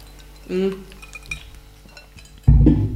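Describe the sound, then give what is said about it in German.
Glasses clink together in a toast to the holiday: a few bright, ringing taps with short resonant tails, between bursts of voices and table noise. “Wollen wir Prost, erstmal prosten?”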